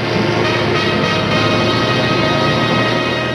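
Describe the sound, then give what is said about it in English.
A heavy tanker truck rumbles forward through a plant's gate, its deep engine drone steady and loud for the whole stretch with a constant low hum and no voices. “the truck rumbles forward through the gate.”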